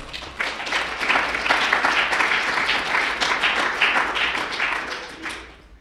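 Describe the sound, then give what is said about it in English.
A crowd applauds a panel steadily, many hands clapping in a dense, crackling wash that holds at an even loudness for several seconds before thinning out at the end. “Can we give them all another round of applause, please?”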